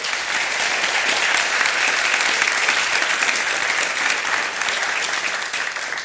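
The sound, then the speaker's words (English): Sustained applause from a sizable audience, a dense steady patter of many hands clapping at an even loudness for several seconds with no voices. “Let's all give them a round of applause.”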